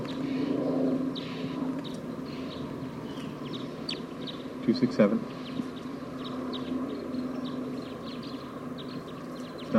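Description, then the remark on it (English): A wild bird gives faint, short, high-pitched calls, repeated irregularly throughout over a steady low rumbling background, with a brief burst of louder clattering partway through. “So recording a wild bird just arrived on the scene. I don't know what call type it is.”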